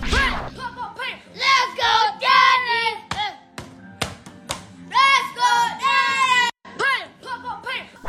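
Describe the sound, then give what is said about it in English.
Excited, high-pitched voices of Cam Jordan's kids shout and squeal in repeated bursts, celebrating their father's 100th career sack, with scattered claps and thuds between them; the cheering stays loud and lively throughout. “And we've got some great video of Cam Jordan and his kids celebrating daddy doing his thing.”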